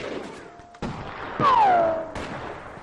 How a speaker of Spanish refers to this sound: En cualquier momento empieza la ensalada de tiros.